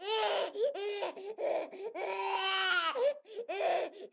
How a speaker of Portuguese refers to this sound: O choro do menino era inconsolável e o Bull Terrier ficou arrasado.